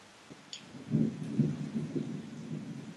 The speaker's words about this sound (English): Can you hear the rain? I'll be quiet for a moment.